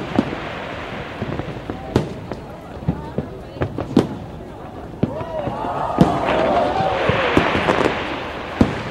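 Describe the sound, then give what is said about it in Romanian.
Fireworks bang again and again at irregular intervals, sharp cracks and booms over a busy background of crowd noise and hissing bursts, the explosions thickening toward the end. “Începuturile pot fi de ani, cu zgomot de artificii și veselie, așa cum îi stă bine oricărui an nou să facă zgomot pentru a-l alunga pe cel vechi.”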